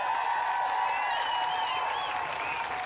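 Audience applause, a steady wash of many hands clapping that holds at an even level for about three seconds, with faint whoops and cheers rising through it.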